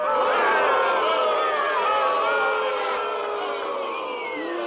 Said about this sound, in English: asked the crowd, should it be Drew McIntyre? And they all booed.